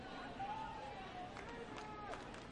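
A large baseball stadium crowd roars and cheers in a steady, continuous wash of noise, with a few thin whistle-like tones rising through the din, trying to rally the Birds' offense.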